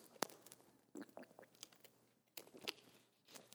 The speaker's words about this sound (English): I am taking a sip of water right now because my throat is starting to get a little sore.